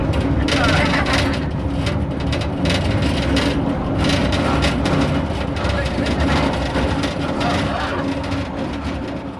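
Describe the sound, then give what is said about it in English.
A mine cage lift rattles and clanks loudly on a bumpy ride as it descends, a continuous metallic racket over a deep mechanical rumble, easing off slightly toward the end. “The ride was a little bumpy and, as you can tell, noisy.”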